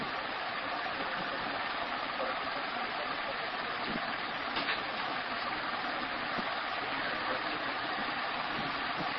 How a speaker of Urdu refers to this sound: کوئی نہیں بند ہے نا, وہ والا پنکھا بند کر دو.